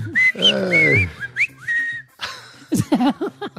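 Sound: person whistling a tune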